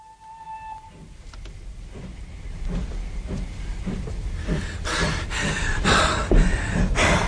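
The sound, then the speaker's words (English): A steam train chugs along the rails, its rhythmic chuffing bursts quickening and growing louder as it approaches, with a steady rumble underneath and no voices. “At this rate, we'll be beating the train, all right.”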